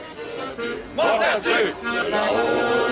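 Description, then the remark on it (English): A crowd sings nostalgic songs together as the 79th Vendange Festival in Montmartre, Paris, France, winds to a close, many voices joining in loud, sustained, wavering lines that swell and fall over a continuous background of crowd noise. “This crowd sings nostalgic songs as the 79th Vendange Festival winds to a close.”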